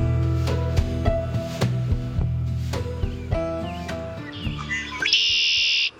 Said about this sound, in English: Many of those prairies will soon come to life with the song of this bird. Red-winged blackbirds are found in most of North America. They're gregarious, they're abundant, and after a long winter, they're back in the northern U.S. and Canada.